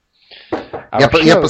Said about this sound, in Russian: Я постучал.